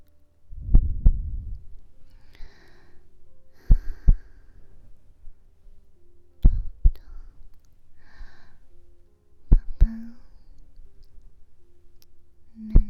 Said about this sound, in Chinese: 听到了吗？就是姐姐的心跳声，是不是很平稳？有没有感觉很安心呢，宝宝？